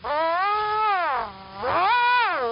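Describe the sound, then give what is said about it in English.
A plucked elastic band twangs in a steady, buzzy tone that glides downward, dips briefly quieter, then swoops back up and wavers before easing lower, its pitch changed by altering the length of the vibrating elastic; a shorter band gives a higher pitch. No one speaks. “I can change the length of the elastic that is vibrating”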